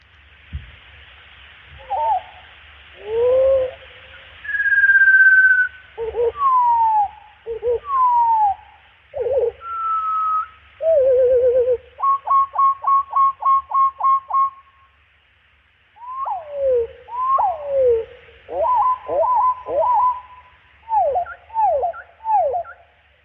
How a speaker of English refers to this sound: Okay, now here's the same lark sparrow slowed down 5 times.